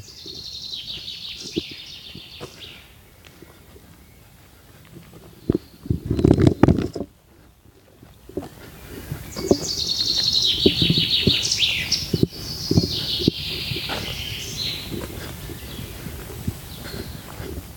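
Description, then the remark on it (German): Birds chirp and warble steadily in a forest on a walking route between Bonn and Rheinbach, several voices overlapping, with a brief burst of rustling or footsteps near the middle and soft ambient noise throughout. “Das klingt eigentlich so gut, dieses Vogelgezwitscher.”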